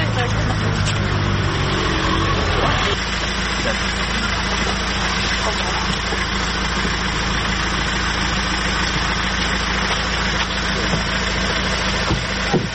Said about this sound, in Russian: Давайте дітей в машину. А ну, це там машина, смотри